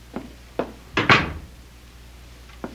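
door opening and closing

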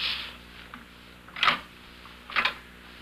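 knocking on a door

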